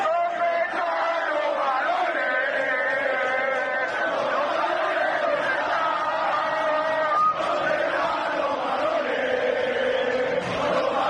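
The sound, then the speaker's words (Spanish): A large crowd of football fans at a Málaga match against Nàstic de Tarragona chants "¿Dónde están?" in unison, a loud, sustained rhythmic battle cry with many voices rising and falling together over steady stadium noise. “Pues ese grito de guerra en un momento dado, tanto el balón en el rectángulo de juego y la grada en el fondo norte donde estaban los seguidores del Nasti de Tarragona.”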